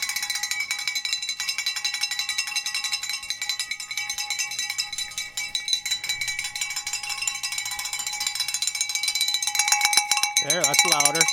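Bells ring in a dense, continuous jangle of bright, high metallic tones, shaken rapidly throughout and growing slightly louder toward the end, where a brief wavering tone joins in.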